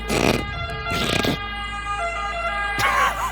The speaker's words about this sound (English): This is an Italian siren first.